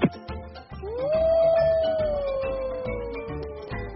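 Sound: wolf howling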